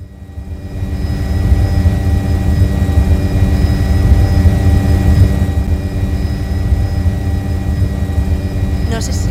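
A loud, deafening mechanical drone with a harmonic, engine-like hum, like an airplane engine, fills the whole recording: a flying drone buzzing overhead, holding constant without fading.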